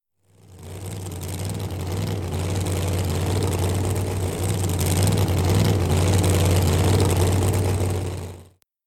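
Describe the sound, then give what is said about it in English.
A flying car's engine drones loudly for several seconds, with a strong low rumble and a whirring, buzzy texture, fading in and out at the ends with no voices. “Suddenly, Wendell appeared in a car in the sky.”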